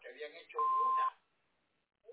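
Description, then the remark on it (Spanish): A single loud answering machine beep, a steady mid-pitched tone lasting about half a second, follows a voice speaking a recorded greeting asking callers to leave their name and phone number and briefly overlaps it, then gives way to near silence. “Por favor, deje su nombre y número de teléfono después del beep.”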